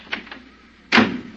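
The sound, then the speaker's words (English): A car door is shut firmly once, a solid thump that rings briefly, preceded by a couple of faint handle clicks, with no voices. “I don't think your door's closed tight, honey.”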